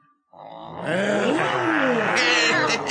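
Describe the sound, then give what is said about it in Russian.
A group of children roar together in imitation of lions and tigers, a loud, sustained chorus of overlapping growling voices that starts after a brief pause and holds steady to the end. “А рычать, как львы и тигры, можете?”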